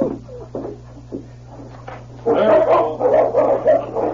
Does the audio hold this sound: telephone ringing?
no